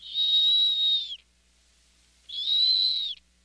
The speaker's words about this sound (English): If it sounds like a kettle whistling, it's a snowy owl.